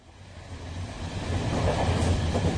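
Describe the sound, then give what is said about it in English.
Steady rumble of a moving train to Newcastle, heard from inside a carriage, building slightly in loudness with low rolling noise and faint rhythmic clatter throughout; no voices. “So let's listen now to what happened on the train to Newcastle.”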